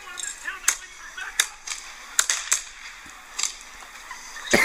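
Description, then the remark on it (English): A string of sharp gunshot cracks, about nine in under five seconds at an irregular pace, sounding thin, played from a video. “Yeah, well, it was gunfire.”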